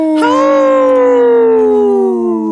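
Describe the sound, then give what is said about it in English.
A single loud, drawn-out wolf howl that holds a steady tone and slowly sinks in pitch for a couple of seconds, heard alone without any talking. “We got the wolf controls.”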